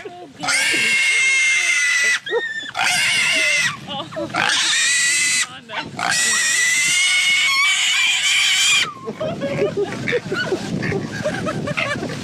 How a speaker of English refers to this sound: What is this? Pig squealing. Okay, great. This doesn't even offend me because I don't sound like that.